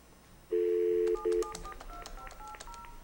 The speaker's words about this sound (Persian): آره فعلا تلفن جواب نمیدیم، اگر میخوای اونو بکشش که اصلا صدا نده اذیتت نکنه.